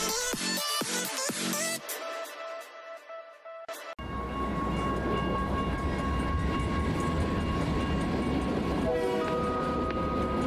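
A train horn blasts in short bursts and then holds a long tone, followed by the loud, steady rumble and rattle of a train rolling past on the rails in downtown Gambia.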